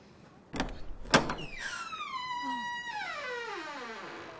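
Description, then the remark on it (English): A latch clunks twice, then the door of the Kavkaz, still bearing its sign, swings open on a long, loud, creaking hinge whose groan slides slowly downward in pitch over a few seconds. “Look, there's still the sign on the door. Shall we go in?”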